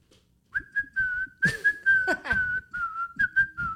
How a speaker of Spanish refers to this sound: Y lo que hacía el vato, el güey chiflaba mucho en la mina, güey. La gente chifla cuando trabaja. ¿Cómo le habrá chiflado?